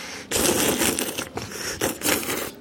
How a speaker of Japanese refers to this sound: まあ、このすする音でさ、いかにこう麺にスープが絡んでるかが伝わるかなと思いますけどもね。ということで、おすすめの麻婆麺でございます。